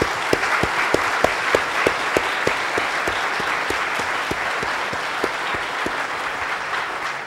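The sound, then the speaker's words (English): An audience claps steadily for several seconds for the standing PC members, their hard work being applauded: a dense wash of many hands with a few sharper, louder claps standing out in an uneven rhythm, with no voices. “And these guys did a fantastic job, and let's give them a round of applause for all their hard work.”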